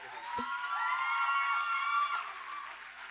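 A crowd applauds steadily with whoops and cheers rising over the clapping, a dense wash of sound that holds for a few seconds and then eases slightly.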